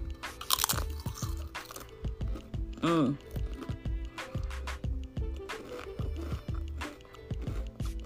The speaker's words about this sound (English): Today, I'm going to talk about favorite crunchy stuff. Crunchy eats. And what I'm crunching on right here is these chips. You can crunch on anything you want, really. You can crunch a hard crunch.